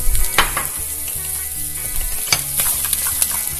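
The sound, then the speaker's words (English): Onions and leeks sizzle steadily in a hot pan where chicken was just browned, a continuous crackle with a few louder scraping stirs breaking through, and no one speaking. “Now what we're going to do here, we're going to add our onions and our leeks, and we're going to let them sizzle there for about a minute.”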